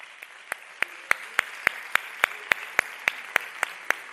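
A crowd applauds, with sharp claps falling into a steady, even rhythm about three or four per second over a continuous wash of scattered clapping. No one speaks.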